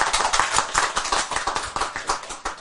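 A crowd applauds with steady, overlapping hand claps, a dense crackling patter of many hands that holds at an even level for a few seconds with no voices, clapping at a Buddhist teaching.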